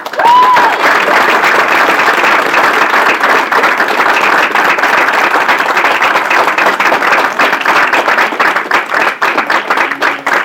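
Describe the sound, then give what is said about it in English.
A crowd at an NFB event breaks into sustained, loud applause, dense clapping that holds steady for about ten seconds, with a brief whistle near the start and a few scattered cheers mixed in. “So with a round of applause for a moment, how many people are here because someone invited you to come to an NFB event?”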